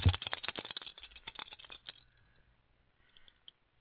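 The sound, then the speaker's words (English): Dice rattle briskly in a cup for about two seconds, a dense run of sharp clicks, then a few faint scattered clicks follow after a short pause, as lots are cast for garments. No voices. “And they divided my garments among them, and for my vesture they cast lots. Who speaks? The thief to the left. Give me the dice.”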